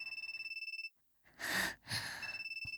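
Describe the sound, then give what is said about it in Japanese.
A phone ringtone trills in a rapid, steady electronic pulse, breaks off for a moment while someone lets out a loud breathy sigh, then starts ringing again. “電話出るから、さっさとチェックアウト済ませてきて。”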